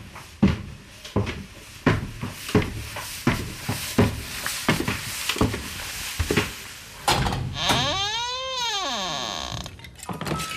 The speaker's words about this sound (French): Et nous avons pas une petite fenêtre, mais une grande porte qui nous amène vers le grenier.